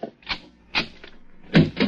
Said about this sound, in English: Open the other door